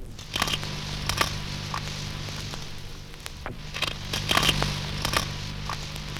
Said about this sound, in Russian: При питании ставриды и ласкири громко хрустят. Зубарик хрустит по-своему.